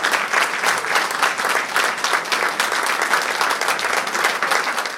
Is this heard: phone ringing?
no